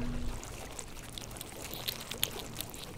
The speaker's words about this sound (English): We all peer inside as he draws his first cage out of the water, close enough to hear the spider crabs inside blowing tiny bubbles.